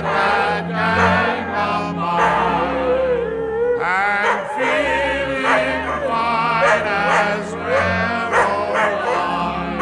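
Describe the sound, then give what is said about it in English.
A dog bows-wows and howls in a sing-along with a country tune, its yips and barks mixed prominently with guitar, bass and harmonizing voices throughout. “The dog sings lead.”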